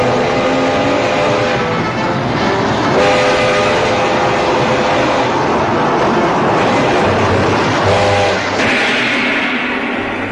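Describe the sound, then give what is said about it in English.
A train rushes past at speed, its wheels rumbling and rattling loudly, while the horn blows in several sustained blasts over the steady roar, with no voices. “Can even Superman save this train from destruction?”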